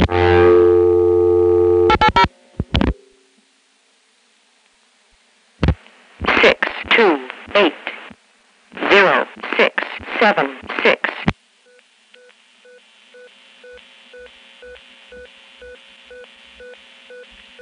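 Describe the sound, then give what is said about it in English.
Over a telephone line, a steady tone and a few clicks give way to the automated voice of a Cognitronics number readback device, which has dusty photographic film digits, reading out a string of digits, followed by faint, evenly repeating beeps. “That's the most common Cognitronics number readback device that was in use.”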